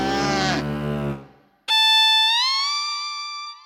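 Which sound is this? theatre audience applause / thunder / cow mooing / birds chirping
cow mooing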